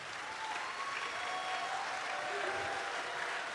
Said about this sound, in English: And the Bible says, clap those hands with shouts of joy. So let's go ahead and practice that one time. Just clap.